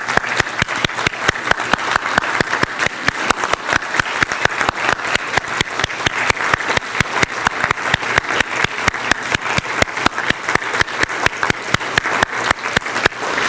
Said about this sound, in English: So men, let's do that. Right now, let's go. Amen. Okay, men, you can stand up and applaud now.